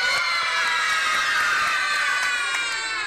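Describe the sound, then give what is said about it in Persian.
A group of children shouts a loud, sustained hooray together, their overlapping high voices forming a bright, continuous cheer for about three seconds, with no one speaking over it. “حالا یه هورای بلند.”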